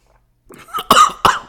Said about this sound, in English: Nope, he's still sick. No, we're good. We're good. That was the normal whiskey cough. That was just the burn, yeah.